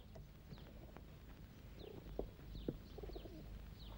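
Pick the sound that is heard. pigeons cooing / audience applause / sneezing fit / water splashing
pigeons cooing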